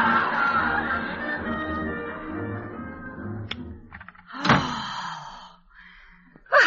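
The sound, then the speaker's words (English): A door rattles and clicks, then swings shut with a solid slam, followed a moment later by another sharp thump, over fading background bustle. “Lead them out the back door.”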